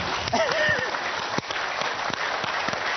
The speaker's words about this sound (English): So we're going to show you how to clap, because it might be something you're not used to very often. Okay, so right hand, left hand, okay? And then you've got to meet them in the middle, and hopefully you'll make a sound.